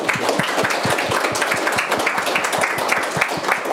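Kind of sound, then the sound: crowd, audience round of applause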